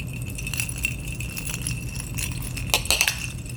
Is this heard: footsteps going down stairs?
no